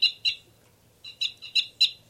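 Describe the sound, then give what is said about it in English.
A bird gives a series of short, high-pitched chirps: two quick notes, a pause, then four more in a loose rhythm, fairly loud over a faint low hum. “Now both birds.”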